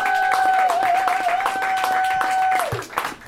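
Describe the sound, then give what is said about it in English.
Steady audience applause with dense, continuous clapping, while a sustained whistling tone runs over it and then slides downward near the end as the clapping thins out. “Please continue that gracious and loving applause for Amy Miller, Guy Branum, and Steve Hernandez.”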